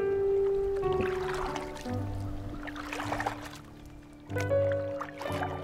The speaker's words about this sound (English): The rhythm of the oars, mimicking the rhythm of your breath.